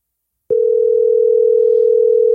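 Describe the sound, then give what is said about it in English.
After a brief silence, a phone's outgoing ringing tone starts as a call is placed to a man who does not pick up, holding as one steady, loud, slightly warbling electronic hum until the end, with no voices. “He's not picking up his phone.”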